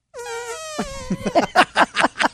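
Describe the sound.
Two people blow mouth fart noises together: a sustained buzzy, horn-like drone that breaks into a rapid run of loud sputtering raspberry pulses.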